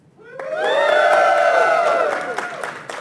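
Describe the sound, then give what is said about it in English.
An audience bursts into loud cheering as a cheer vote for Samus over Alucard, with high shouts and whoops rising together, holding steady for a couple of seconds, then tapering off with a few claps. “Let's just do a cheer vote so the people on Twitch can participate as well.”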